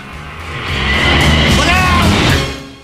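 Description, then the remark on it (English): A car passes close by, its engine and tire roar swelling up loudly, holding for a second or so, then fading as it moves away. “That car keeps coming close to us.”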